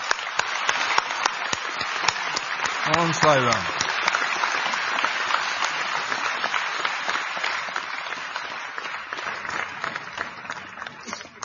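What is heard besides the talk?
audience applause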